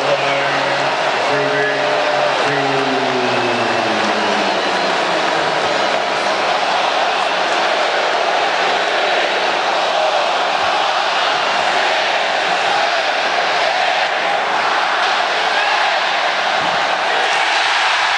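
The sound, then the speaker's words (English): A loud arena crowd at a Portland versus Milwaukee basketball game chants a count in unison while a player takes a free throw, a dense, continuous roar of many voices that holds steady for the whole stretch, with a brief lower rumble near the start. “Listen to the crowd.”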